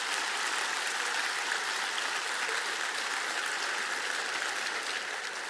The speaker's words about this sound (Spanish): ¿Cuántos pueden decir amén? Vamos a dar un aplauso al Señor en esto.